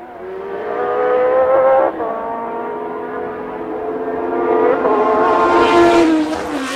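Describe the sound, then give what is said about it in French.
A race car engine downshifts through the gears at the end of a straight, from fifth to fourth, third and second, its loud buzzing whine breaking briefly at each change and then jumping higher in pitch, climbing to a shrill peak before easing off. “En fin de ligne droite, rétrogradage, 5e, 4e, 3e seconde.”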